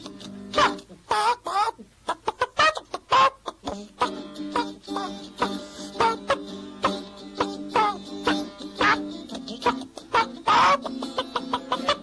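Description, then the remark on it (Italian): Several voices imitate clucking hens as a comic hen show, a busy stream of short, choppy cluck sounds overlapping one another nearly nonstop, moderately loud, with occasional sharper squawk-like bursts. “E lui, facciamo uno show, capito? Nel senso di show. Show galline.”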